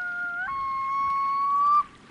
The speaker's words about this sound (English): Some say the sound of the loon is eerie or even lonely, but each year their cries are joyful and absolute proof that winter is really behind us and summer is here again.